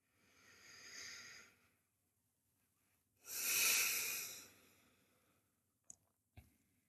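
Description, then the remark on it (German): Slow, deliberate breathing into the belly with no talking: a long soft inhale swelling then fading, a pause, then a louder, hissy exhale, followed by a couple of small clicks or sniffs. “Auch hier lade ich dich ein, 5 ganz bewusste Atemzüge zu machen.”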